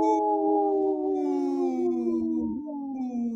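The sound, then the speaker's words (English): A person lets out one long, loud imitation of a wolf howl, a sustained wavering tone that slowly sinks in pitch, with no talking over it. “This portion of the show is brought to you by Howling for Wolves, protecting wolves for future generations. Howl!”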